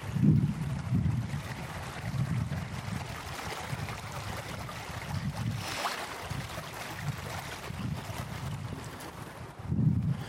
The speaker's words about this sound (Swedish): Jag är alltså i Kassmyra i Tumba. Ni kanske hör vattnet där.